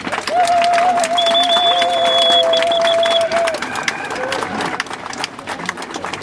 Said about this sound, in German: Ganz herzlichen Dank. Genau. Nochmal einen dicken Applaus bitte.